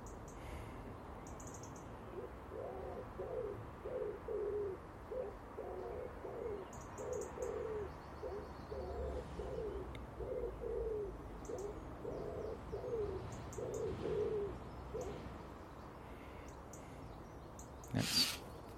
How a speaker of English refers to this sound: That starling interrupted the big wood pigeon's calls.